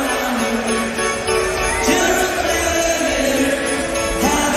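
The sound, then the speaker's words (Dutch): A large darts crowd roars and sings along in a dense, continuous wall of sound, voices swelling together with sung tones that rise and fall, as darts player Rapid Ricky Evans conducts the audience. No single speaker stands out. “En hier dirigeert hij het publiek.”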